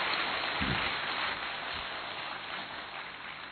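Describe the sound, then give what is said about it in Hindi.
A crowd breaks into loud, sustained applause of welcome on Dussehra (Vijayadashami) at Gyan Sarovar, Abu, greeting a group from Burhanpur. The dense wash of clapping holds steady for several seconds and tapers slightly toward the end, with no voices heard. “जोरदार तालियों के साथ अभिनंदन कर ले।”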